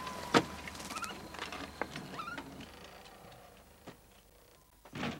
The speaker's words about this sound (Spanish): entra en casa y cierra la puerta.